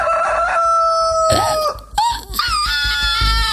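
A rooster crows loudly, its harsh, wavering call repeating in a couple of overlapping bursts with no talking.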